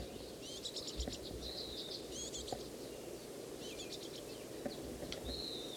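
bird, fledgling bird begging calls

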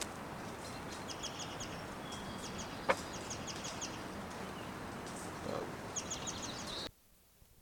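bird, bird flight calls

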